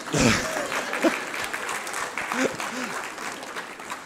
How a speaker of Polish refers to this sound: Księża biją brawo.